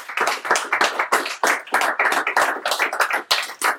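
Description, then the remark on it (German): A crowd applauds steadily, many hands clapping in a dense, lively patter that stays loud and even for several seconds, with no voices over it. “Dafür extra Applaus.”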